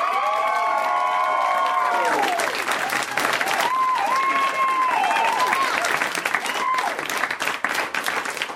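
audience applause and cheering

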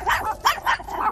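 puppies barking and growling

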